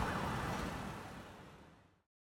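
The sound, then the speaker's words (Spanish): Sirens of police patrol cars and ambulances sound at night over a dense wash of city traffic noise. They are fairly loud and steady for about two seconds before cutting off abruptly. “En la noche se escuchan las sirenas de las patrullas policiales y de las ambulancias.”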